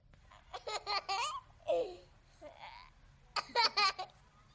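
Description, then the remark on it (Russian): A played recording of a baby laughing in several short bursts of high-pitched, bubbly giggles, with brief breathy pauses between them, fairly loud over a low background hum. “По-моему, это просто мило. Это не смешно. Нельзя смеяться над малышами.”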